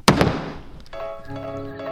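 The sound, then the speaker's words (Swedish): A single sharp wooden knock of the speaker's gavel made for the second chamber of parliament, loud, with a short ringing decay, followed by a steady low hum. “Okej, vi hör en gång bara hur dunket låter.”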